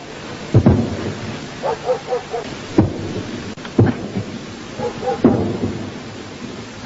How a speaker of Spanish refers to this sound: Esto que tiene que ver con los sonidos, estamos cortinando unos sonidos de la guerra de Malvinas.